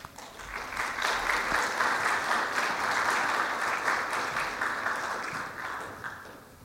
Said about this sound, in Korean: 우리 총장님 나오실 때, 선교사님 나오실 때 우리 환영의 박수 하나님께 올려드리겠습니다.